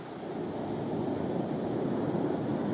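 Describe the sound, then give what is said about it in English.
A steady, rushing roar of big ocean waves and surf, dense and unbroken throughout, with a windy hiss over the water and no voices. “Not touching the water, although working with big, big waves.”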